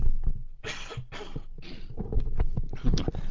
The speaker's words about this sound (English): I have to cough here just a second, excuse me.